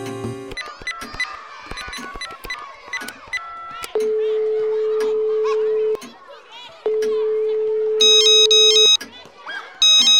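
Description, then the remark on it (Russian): After some brief talking and busy background sounds, two long, steady ringback tones sound in a row as a call is placed to Dobrynya, captain of the fairy-tale police, each lasting about two seconds, clear, followed by a few higher electronic beeps. “Я срочно звоню Добрыне.”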